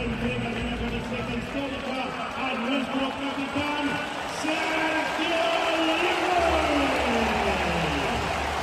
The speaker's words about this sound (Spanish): Este era el momento de ovación en el Palacio de los Deportes ayer.